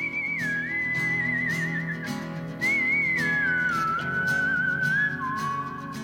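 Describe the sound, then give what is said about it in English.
A clear, bright whistled melody glides and sustains its notes over steady instrumental backing, loud, with no voices, at the very beginning of a song used as a theme song. “The whistling part is right at the beginning, just like you hear it in our show.”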